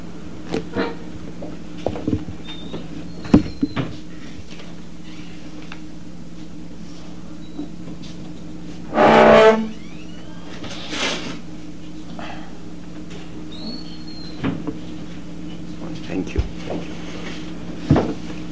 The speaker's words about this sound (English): Could someone please close the door?